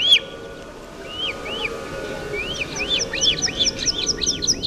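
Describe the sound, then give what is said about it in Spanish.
A bearded vulture named Resalao, a chick raised by the Fundación Quebrantahuesos, whistles in the high mountains in a rapid series of thin, high, arching notes, sparse at first and then tumbling together more quickly, over a steady low rumble of wind. “Y este es Resalao silbando en la alta montaña.”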